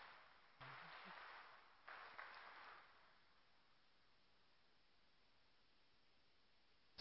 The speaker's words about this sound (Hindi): तो इसलिए ताली बजाओ जरा अच्छी तरह से।